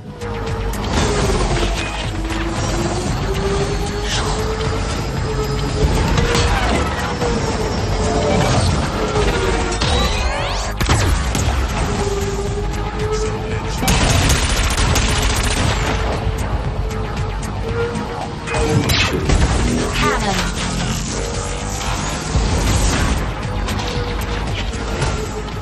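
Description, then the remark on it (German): Dense, loud futuristic racing video game soundscape of a race, with whooshing engines and roaring pass-bys, sharp crashes and booms punctuating a steady wash of noise and a wavering tonal hum throughout, no voices. “Aber hier hat man wirklich das exzellent geschafft, diese akustische Stimmung auch auch neben der Musik zu übertragen, die bei so einem Rennen dann herrscht.”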